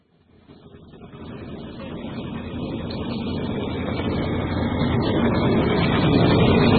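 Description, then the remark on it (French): A heavy locomotive rumbles into motion at Matéki train station at 2 p.m., a broad low mechanical roar that steadily builds in loudness over several seconds with no voices, while about 50 waiting people look on. “Une locomotive s'ébranle sous les regards de ces hommes et femmes obligés d'attendre.”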